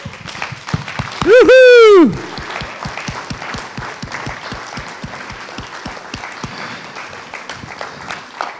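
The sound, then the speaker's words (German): An audience gives enthusiastic applause to the event's dedicated helpers, driven by a steady rhythmic clapping beat, with a loud, wavering whistle cutting through early on before the clapping carries on. “Ich finde, wir sollten denen nochmal einen richtig saftigen Applaus geben.”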